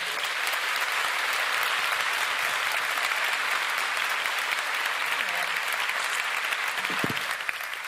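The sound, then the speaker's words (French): Sustained, dense applause from a large audience opens the ceremony of a national final of a thesis-presentation contest in France, steady and loud throughout with a thick wash of overlapping claps and no one speaking. “Et nous allons, avec un tonnerre d'applaudissements, ouvrir cette cérémonie.”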